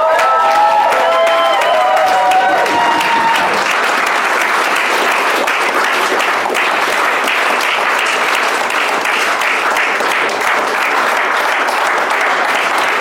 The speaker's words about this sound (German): Glückwunsch, das ist dein Applaus.